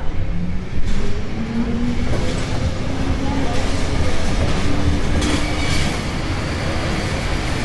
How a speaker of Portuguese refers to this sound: Este é o meu elétrico, que passa aqui na minha casa, como acabaram de ouvir.